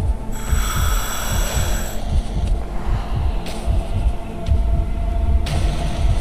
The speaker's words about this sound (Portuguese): Você consegue ouvir o coração dele batendo, a respiração pesada.